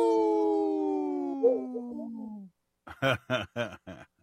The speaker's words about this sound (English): Oh, it was a little baby. Wolf pup. Yeah, a little pup. Exactly.